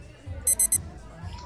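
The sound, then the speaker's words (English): A kitchen timer beeps three times in quick succession, sharp, high-pitched and loud, over a faint low murmur of background noise. “Start my timer. Thanks. Thanks for reminding me.”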